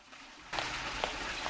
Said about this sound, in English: Felix follows the noise of the flush and points his gun at the bathroom door.